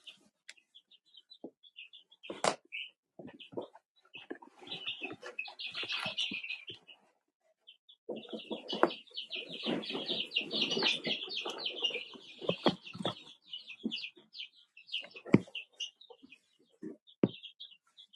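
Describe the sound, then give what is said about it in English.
A crowd of birds in a brooder box chirps and peeps constantly in a high-pitched chorus, swelling louder midway, with occasional knocks and thumps mixed in and no talking. “So now I'm gonna replace the covers on this so I can listen to the birds again for a minute.”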